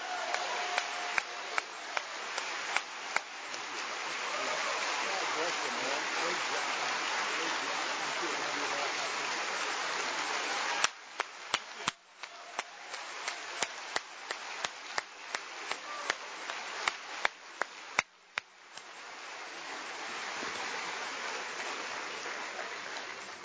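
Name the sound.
audience applause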